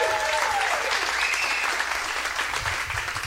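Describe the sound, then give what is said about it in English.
Steady audience applause for a sponsor's representative from Lanesboro Arts fills the whole stretch, a dense, even wash of many hands clapping at a fairly loud level with no talk over it. “Let's hear it for her.”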